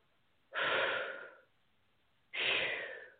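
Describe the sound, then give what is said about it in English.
Heavy breathing: two loud, breathy exhales about a second long each, separated by a short pause, with no talking. “I'm doing a lot of breathing.”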